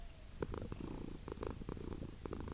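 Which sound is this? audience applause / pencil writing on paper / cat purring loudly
cat purring loudly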